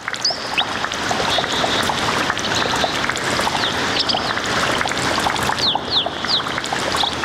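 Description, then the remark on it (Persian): Water flows steadily at a spring (godar), a continuous rushing and gurgling, while small birds chirp sporadically above it. “سلام شنونده های رادیو آزادی، در این برنامه با شما یک جا به طرف گودر یا چشم ساران می رویم.”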